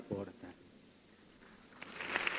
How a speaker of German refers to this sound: Dieser Applaus für diese Worte des Papstes.